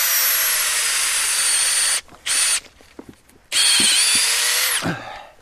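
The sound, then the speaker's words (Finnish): A power drill bores a tap hole into the trunk of a living birch tree, loud and whining in a long run, a brief blip, then another sustained burst that winds down, with quiet pauses between. “Vähän pahaa tekee, kun porataan elävän kauniin puun kylkeen.”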